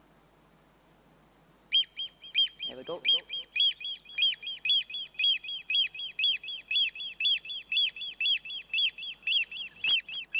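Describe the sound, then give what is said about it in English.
Two oystercatchers and a chick call noisily at the seaside in a rapid, repeated series of loud, shrill piping notes that run continuously for several seconds, with a brief spoken remark in the middle. “You go to the seaside to watch the sea and have a quiet time and oyster catchers. The Gillybridges start up.”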